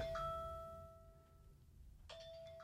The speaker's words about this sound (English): Now, that timer, folks, I don't know how much was recorded